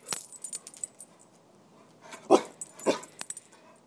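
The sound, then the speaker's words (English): A dog lets out two short, soft barks a moment apart, with light metallic jingling like collar tags around them and no voices. “You gonna talk? You gonna say hello? Come on, where's the wolf?”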